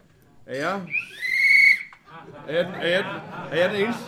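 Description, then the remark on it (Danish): A short voiced sound, then a single whistle blast lasting about a second, steady and high-pitched with a slight upward bend, followed by animated voices, during a May Day (1 May) speech in Fredericia. “Er jeg den eneste, der har medbragt en fløjte?”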